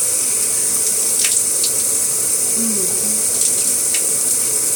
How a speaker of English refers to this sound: You know I like the water hot. Why don't we turn it on?